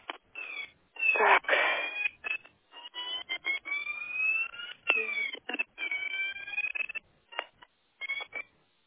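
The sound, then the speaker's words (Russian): A security alarm at the fifth entrance of a building beeps and warbles in a rapid series of tonal bursts with sliding pitches, sounding thin and tinny as if heard over a phone line, with no talking. “5-й парадной пищит сигнализация.”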